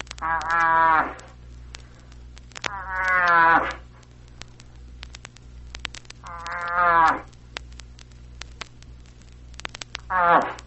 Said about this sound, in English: The bull moose, in search of a cow moose, cries this way.